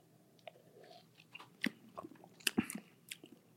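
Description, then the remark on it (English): Someone sips a cucumber lime drink, with a quiet run of wet mouth clicks and smacks and a couple of sharper swallowing sounds, no talking. “Let me go ahead and sip that then.”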